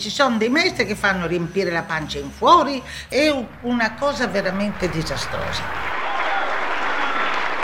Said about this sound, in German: Applaus und ein Ständchen für die Dozentin Fedora Barbieri vom Meisterkurs für Gesang in Gdansk 1998.